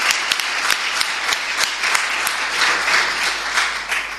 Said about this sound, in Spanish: Un aplauso.